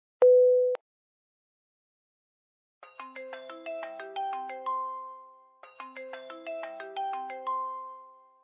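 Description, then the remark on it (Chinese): A short steady beep sounds first, then after a pause an incoming video call ringtone plays a bright, bouncing melody that repeats twice, clear, with no one speaking. “哟，这么着急给我打视频电话呀？”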